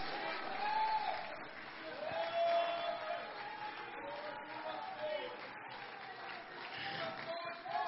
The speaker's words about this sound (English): Come on, clap your hands right now. The Lord's in this room.